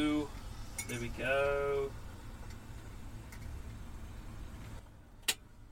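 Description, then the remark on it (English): A few sharp clinks of a mug and kettle being handled while making tea, with the kettle about to boil, spaced out over several seconds, with a brief muffled voice near the start and a quiet hum underneath. “Oh, kettle's about to go. Oh, let's just pop that there. Let's let that stew.”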